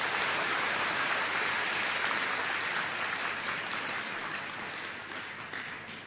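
A crowd claps steadily and loudly for about six seconds, a dense crackling wash of many hands with no voices, easing only slightly toward the end.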